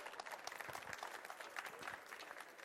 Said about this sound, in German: Ein Applaus für 2 mutige Kinder.